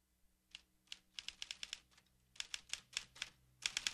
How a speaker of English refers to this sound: Nearby, a figure's working at a typewriter.